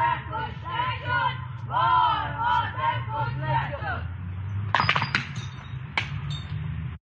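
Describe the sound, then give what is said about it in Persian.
A crowd in Islamshahr chants slogans together in loud, rhythmic shouted phrases at the house of the city's Friday prayer leader at night. Sharp crashing and clinking bursts of the house windows being smashed break in toward the end while the crowd noise continues, then it cuts off abruptly. “این هم فیلم بچه های اسلام شهر، همه با هم همراه شعار دادن و شیشه خونه امام جمعه اسلام شهر رو دیشب آوردن پایین.”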